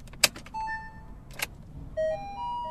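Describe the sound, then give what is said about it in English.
Two sharp clicks followed by a sequence of clear electronic tones, a soft rising chime from a rented low-cost electric car signaling it is ready to drive, over a quiet low hum. “So that little sound was just to let me know that I can start driving.”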